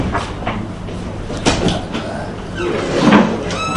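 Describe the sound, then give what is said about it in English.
A door is opened with a short rattle and a sharp knock near the middle. A dull rolling rumble swells toward the end, and no one is speaking. “I'm just going to open the door because I have a class in Masechet Ksuvos this year.”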